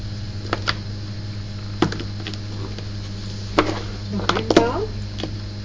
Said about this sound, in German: Da müssen wir auch mal weiter ausschneiden.